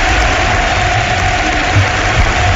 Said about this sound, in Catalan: Aquests són els aplaudiments de la gent del Camp Nou, que dempeus esportivament aplaudeix el campió, que amb tota justícia ho celebra sobre la gespa de l'estadi.